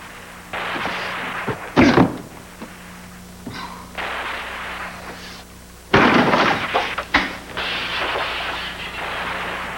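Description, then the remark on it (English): Heavy, loud crashing impacts, two big bangs several seconds apart with rough scraping and rattling noise between them, like a door being forced and broken open. “You know, you're gonna have to pay for that door.”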